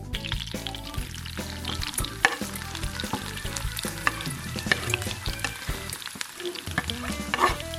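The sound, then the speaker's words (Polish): Onions frying in a generous amount of butter in a pan for a pierogi filling, a steady sizzle with bright crackles and pops throughout, plus occasional stirring clinks; no one speaks. “Na patelnię dajemy sporą ilość masełka, na której będziemy smażyć naszą cebulę.”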